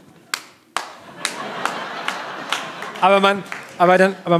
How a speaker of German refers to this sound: im Flugzeug nach der Landung sitzen bleiben oder direkt aufstehen? Immer sitzen bleiben. Klatschend aufstehen.